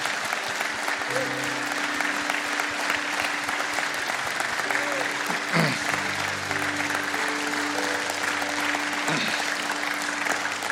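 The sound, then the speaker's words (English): Sustained applause from a large church audience after the announcement of a candidate for lead pastor, a dense steady wash of clapping that holds at an even level throughout, with faint tonal hums and a few brief murmurs beneath it. “Wow, I'm really glad they clapped.”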